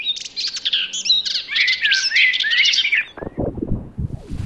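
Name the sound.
small birds chirping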